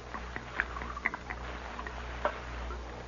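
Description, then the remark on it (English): Liquid trickles and splashes softly from a jug into a cup, a quiet run of small gurgling drips and splatters over a low steady hum, with no voices. “and I brought you a cup, too. Pour me some.”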